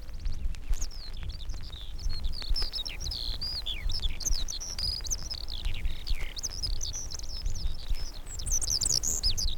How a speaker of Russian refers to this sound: И тотчас, совсем рядом из межин, устремляется в небо жаворонок.